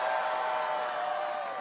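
A large audience applauds and cheers steadily, a dense wash of clapping and crowd noise holding at an even, fairly loud level throughout the short stretch. The audience applauds the person who gave the speaker's introduction.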